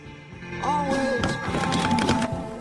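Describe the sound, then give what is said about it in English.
A car crashes into a fountain on the drive of an expensive white house with a heavy thud followed by several crunching, splintering impacts and clattering debris, loud, with a continuous whooshing wash underneath and no voices. “George gets out of the car, which he's crashed into a fountain on the drive.”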